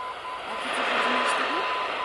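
An aviation radio beacon's Morse code tone signal, of the kind picked up by aircraft in flight, buried in loud, steady shortwave static, faint short tones blipping through the hiss over two seconds.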